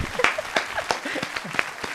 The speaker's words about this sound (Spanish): Un aplauso para las dos. Bienvenidas.